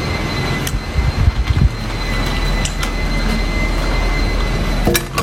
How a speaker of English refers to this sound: That sound in the background is the vacuum cleaner, because this shit ain't all just glamorous. You gotta clean up.